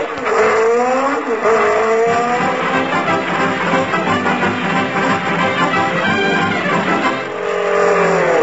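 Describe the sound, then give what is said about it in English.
A jeep roars past with its engine revving and tires squealing, the pitch sliding up and down in loud, continuous whines for about eight seconds, with no one speaking. “Hey, Mac, did you see a jeep go past here full of books?”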